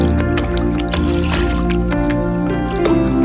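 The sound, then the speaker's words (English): Steady trickling water with scattered drips and splashes over a continuous low watery murmur, fairly loud throughout, with no talking. “Did everyone that hears this sound believe in water?”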